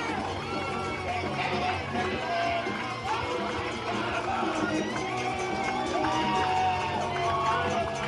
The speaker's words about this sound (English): Listen to this crowd.